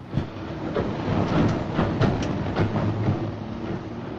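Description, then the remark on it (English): A train pulls away from a station platform, rolling along steadily with a low, continuous rumble and a series of rhythmic rail clacks, heard from inside a carriage, with no voices. “Rave watches out the window as the train pulls off, then relaxes a little.”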